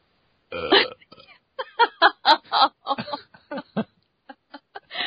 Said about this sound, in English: I don't think we should have burps on the blooper reel somehow. No, because, you know, obviously, it's okay to say fuck a lot, but a burp, goodness.